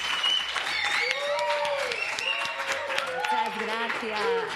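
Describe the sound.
An audience breaks into steady, sustained applause, a dense wash of clapping that lasts throughout, with voices talking and calling out over it.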